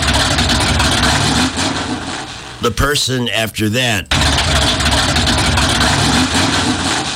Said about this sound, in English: The very next person that got in the car turned it on.